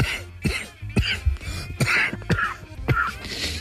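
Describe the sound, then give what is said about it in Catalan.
Someone coughs repeatedly in a rough, irregular series of about seven or eight short bursts, fairly loud, with no talking. “està tossint aquest, dius, pobre, està intentant evitar que això no em molesti.”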